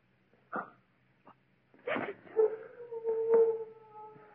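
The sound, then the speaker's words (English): A dog howls, a drawn-out wavering tone that holds for a couple of seconds after a few short, sharp yelps, with no one speaking. “It's only one of the dogs.”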